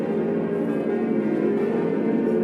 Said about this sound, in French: On va entendre les cloches de Notre-Dame.